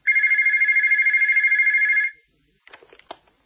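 A telephone in an office rings in one continuous trilling burst lasting about two seconds, loud, then stops; a brief handling clatter follows, like a receiver being picked up.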